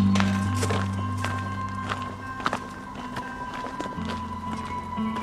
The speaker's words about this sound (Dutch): We lopen nu op een voetpaadje tussen van de ene cluster naar de andere cluster, toch?